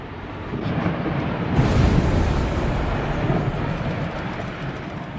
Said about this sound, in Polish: Kiedy się zbliżamy do lodowców, słyszymy niesamowite trzaski, wręcz jak gdyby jakieś wybuchy, kiedy lodowce dzielą się na mniejsze kawałki, spadają setki ton do wody, tworząc niesamowite tsunami i tworząc niesamowity hałas przy tym.